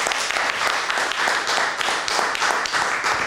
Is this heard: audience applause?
yes